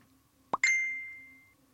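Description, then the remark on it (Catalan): A short two-part Facebook Messenger notification: a soft popping blip followed at once by a bright, ringing chime tone that sustains and fades over about a second, heard alone over faint background hum. “És una notificació, m'atreveria a dir, del Facebook Messenger.”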